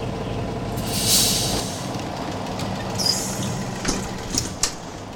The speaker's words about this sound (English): Look, a bus is coming this way. Maybe we can take it there.